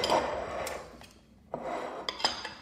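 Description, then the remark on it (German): Ceramic cups are deliberately rattled for a radio recording, clattering and knocking together in two bursts with a brief lull between and a few sharper clinks toward the end. “Jetzt nehme ich noch ein wenig Geschepper auf.”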